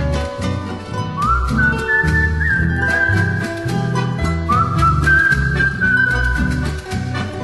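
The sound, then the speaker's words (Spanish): A gentle whistled melody rises and glides in two short phrases over a steady instrumental accompaniment, blending softly into the music rather than standing out loudly. “Voy al trotecito cruzando el palmar, silbando bajito, pronto he de llegar.”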